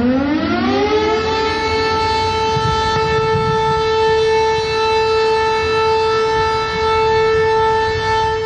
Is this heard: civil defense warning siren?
yes